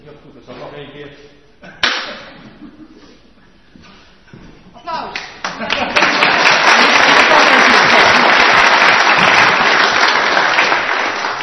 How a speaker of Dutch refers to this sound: Dat is de goede houding, hè? Want jullie weten nog niet waarvoor je klapt.